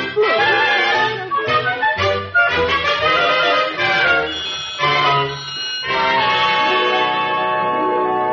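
bells ringing

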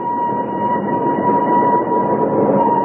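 train arriving at station

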